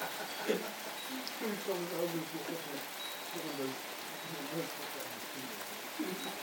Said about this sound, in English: It's thundering and raining.